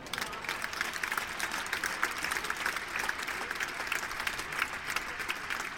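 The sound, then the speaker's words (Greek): Steady applause from a crowd, a dense, even patter of many hands clapping at a moderate level for about six seconds, with no surges or cheering and no voices. “Κάτι πιο ήρεμο, ένα πιο χαλαρό χειροκρότημα παρακαλώ πάρα πολύ.”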